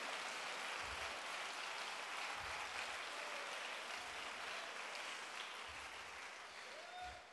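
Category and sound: crowd, audience clapping hands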